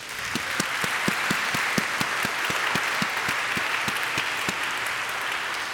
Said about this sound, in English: It's going to be like, keep on going and going, the round of applause. So let's get ready to have your clapping hands ready.